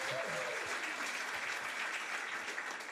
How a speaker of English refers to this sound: So give these guys a round of applause, please.